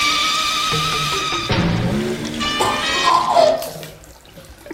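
Water gushes from a tap with a steady rushing flow, overlaid by a whining, tonal squeal from the pipes that shifts pitch before the stream tapers off near the end.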